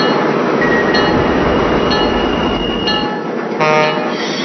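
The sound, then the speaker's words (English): A southbound local train, with smoke coming from one of its last three cars, rolls along with a steady, loud rumble while high metallic squeals of braking wheels whine over it, growing into a brighter screech near the end as it is brought to a stop. “I'll bring my train to a stop and have my conductor located.”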